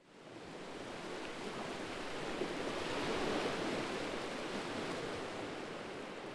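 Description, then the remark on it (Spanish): A soft, steady wash of calm sea waves, swelling gently toward the middle and easing off again, with no voices and no other sounds. “El mar está tranquilo.”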